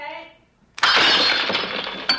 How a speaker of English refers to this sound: That Coke bottle slipped right out of my hands.